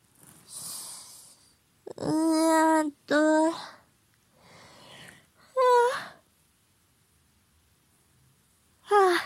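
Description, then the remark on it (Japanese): A person yawns after drinking alcohol, with drawn-out breathy inhales giving way to voiced, moaning exhales, several in a row with pauses between, then one more yawn beginning at the end. “お酒飲むとあくび出るわ。”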